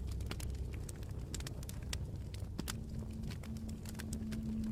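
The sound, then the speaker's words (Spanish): Close, steady crackling of burning firewood logs in a campfire at a forest campsite at night, with irregular sharp pops and snaps over a low, soft rumble of flames and a faint hum, with no voices. “Hay una hoguera muy cerca de ti y escuchas el ligero crepitar de los troncos de leña quemándose.”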